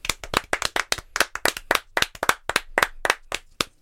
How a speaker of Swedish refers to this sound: En applåd